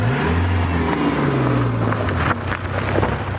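car driving and accelerating

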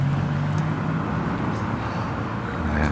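car driving past outside

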